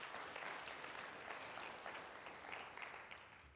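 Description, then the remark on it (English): A church audience gives a clap offering to the Lord, clapping together in a dense, steady burst of applause that carries on without a break, thinning slightly toward the end; no one speaks. “Let's give the Lord a good clap offering.”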